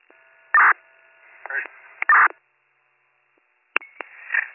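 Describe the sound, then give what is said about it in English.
Short, loud bursts of telephone dialing tones come through a thin, band-limited line, separated by pauses, with a faint steady hum and hiss underneath, as a call is placed back to an abandoned 911 call on East Washington Avenue. “Upon callback, goes to an automatic message saying that there's a toll service that's been blocked.”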